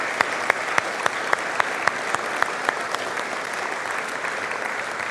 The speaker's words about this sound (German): Deswegen würde ich sagen, jetzt nochmal einen Applaus für alle, auch nicht namentlich genannten Mitarbeiter.